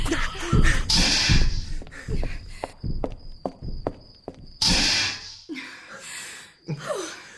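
Quick, hurried footsteps of three people running into a house, fairly loud, with scuffing bursts and a brief faint high ringing tone partway through.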